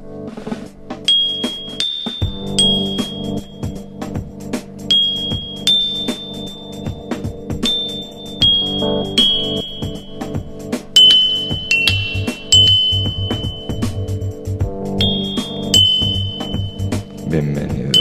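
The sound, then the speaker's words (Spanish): A series of New Year's midnight bell chimes (campanadas), broadcast by Ferencias Radio Project, rings out, bright tones struck one after another at a steady pace over a thick, sustained low hum. No voices are heard. “Campanadas del Ferencias Radio Project.”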